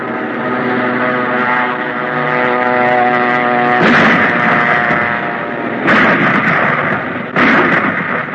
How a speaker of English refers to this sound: Now, there are some of our new 30-mile guns operating from railroad emplacement.